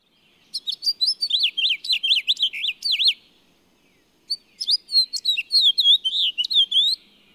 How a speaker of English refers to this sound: Compare our two resident finches. The house finch's warbling twitter usually ends with a longer slurred note.